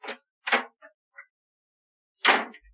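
The door of a drawing room in an old house is handled and shut: a sharp rattle, a couple of small latch clicks, then a firmer closing knock, with silence between the sounds and no voices.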